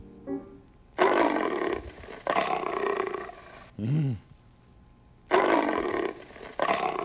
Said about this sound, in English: And here's the lion.